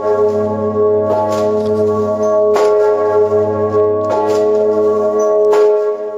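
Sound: large cathedral bell ringing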